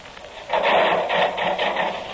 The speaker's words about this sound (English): Yeah, start the saw going.